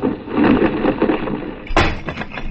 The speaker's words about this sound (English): Oh, what was that? A large marble fragment of ancient Greece. If I hadn't taken your arm just then, it would have splattered me all over the Acropolis.